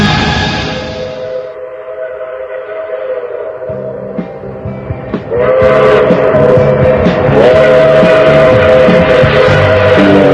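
A loud train whistle sounds in long, steady, harmonic blasts over a rumbling rail noise that swells fuller about halfway through. No one speaks.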